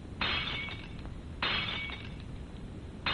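Old dishes are smashed one after another, bright crashing shatters at about 0.2 s, 1.4 s and 3.1 s, each followed by a tinkling spray of shards fading out, with no talking.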